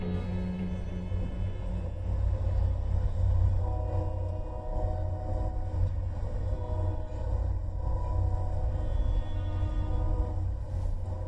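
A steady, heavy low rumble fills the scene inside a moving Amtrak passenger train travelling from New Orleans to Tucson in the evening, with a continuous mechanical drone and faint higher tonal whines riding over it. No one speaks.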